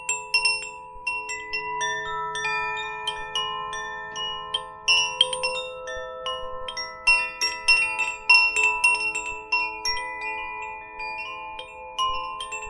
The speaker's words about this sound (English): And listening to the wind chimes for our adventure to begin.